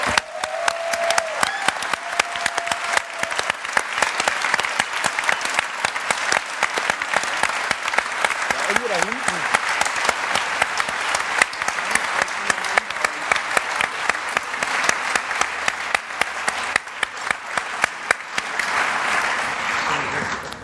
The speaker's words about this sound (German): Bitte einen tosenden Applaus für die Jungs.